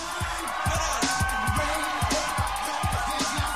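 A crowd gives a standing ovation to a performer on stage who bows and leaves the stage, with steady, dense applause and cheering alongside a regular beat of low thumps, like feet stomping, about twice per second.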